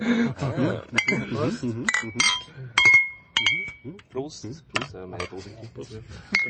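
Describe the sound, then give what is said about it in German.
Glasses clink together in a toast, several bright ringing taps in quick succession, while people talk and murmur around them. “Prost. Sehr gut. Das war das Mikro.”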